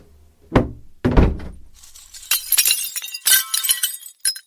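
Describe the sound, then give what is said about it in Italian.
A house window's glass is struck with two heavy thuds, then breaks and shatters, with bright, scattered tinkling shards falling for a couple of seconds. Fairly loud, with no voices. “Ho visto la finestra rotta e mi sa che ho finito di rompertela.”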